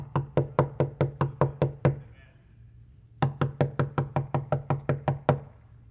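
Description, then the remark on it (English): Two bursts of rapid, sharp knocking, like knuckles rapping on a wooden door: about eight quick raps, a short pause, then a longer run of about eleven, loud. “Do you know there's churches all over America right now and Jesus is doing this?”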